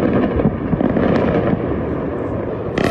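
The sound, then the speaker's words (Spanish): Continuous rumbling booms and crackling blasts from bombing in Tel Aviv and Tehran during missile attacks between Israel and Iran, early on a Wednesday morning, dense and loud throughout, with sharp bursts standing out near the start and at the very end. No voices are heard. “La madrugada de este miércoles se escucharon bombardeos y sirenas de alarma en Tel Aviv y Teherán.”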